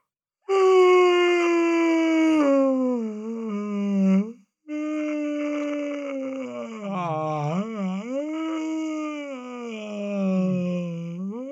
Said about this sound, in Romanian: De fapt, este căscatul lung și căscatul exagerat de lung. Ia să auzim căscatul.